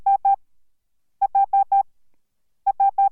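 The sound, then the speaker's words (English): Morse code for the letter H: groups of four short, evenly spaced beeps at a steady mid-high pitch, repeated with pauses between groups and no other sound. “Here's Morse code for the letter H.”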